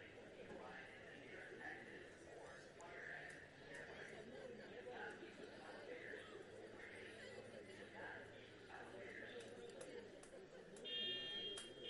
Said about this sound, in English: Of course, you can't really go on with the sirens going on. Just very distracting to both pitcher and hitter.